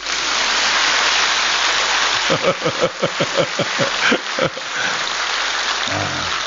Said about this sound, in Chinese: 鼓掌